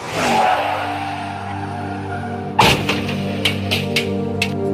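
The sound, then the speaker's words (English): A car drives at 40 miles per hour along a country road on a dark winter morning with a steady engine drone, then a sudden loud thud breaks in partway through, followed by a few sharp knocks and rattles as the engine keeps running. “A car doing 40 miles per hour on a country road on a dark winter morning.”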